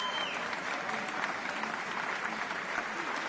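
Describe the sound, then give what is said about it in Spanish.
Sustained audience applause at an opera curtain call as Spanish-Venezuelan mezzo-soprano Nancy Fabiela Herrera takes her bow, a dense, even wash of many hands clapping at steady loudness throughout, with no voices standing out above it. “Hace su aplauso.”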